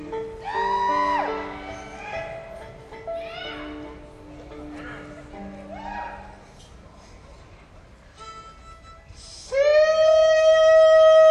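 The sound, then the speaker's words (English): A voice gives a hog-calling shout as a demonstration for an audience: a string of rising and falling whooping calls, then a final long, loud, sustained holler. “Well, just in case you don't know how to give a hog call, I'll give you a quick demonstration, excuse me.”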